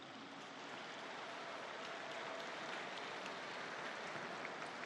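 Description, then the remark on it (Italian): A crowd applauds the new Swiss Guards, dense clapping filling the whole stretch at an even, sustained level with no voices over it. “Un applauso alle guardie, tutti.”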